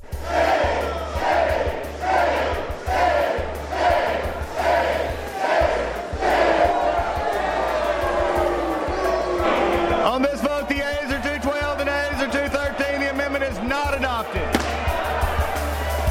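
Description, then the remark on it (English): Lawmakers on the floor of the US House of Representatives boo and hiss in loud, rhythmic surges for several seconds, then the jeering continues as a steady din while one voice speaks out over the noise. “The booze and hissing comes from lawmakers who weren't happy about an amendment that would have removed an anti-discrimination provision that was intended to protect members of the LGBT”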